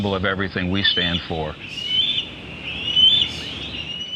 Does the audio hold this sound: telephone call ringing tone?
no